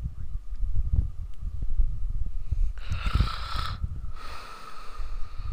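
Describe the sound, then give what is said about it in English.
Heavy, rough breathing of a sleeping person with snorting inhalations before sleep apnea kicks in, loud, rasping and noisy with a breathy hiss in the middle; no talking. “Yeah, the beautiful sounds of your sleeping breathing before the apnea kicks in.”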